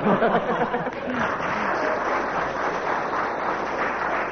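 A ripple of audience applause: many hands clapping in a steady, even patter that holds at moderate loudness for several seconds, with a brief murmur of voices at the very start.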